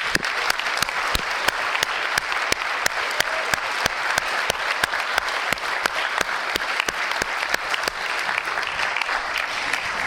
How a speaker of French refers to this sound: Je voudrais qu'on les applaudisse très fort aussi.